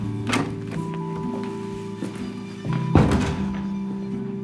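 door closing

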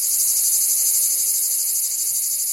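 cicadas singing

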